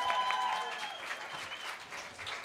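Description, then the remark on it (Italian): An audience breaks into steady applause for a musician, a dense patter of many hands clapping at a fairly even level for a couple of seconds, with a brief high whistle-like tone near the start. “Nostro maître à penser, …, un applauso, grazie.”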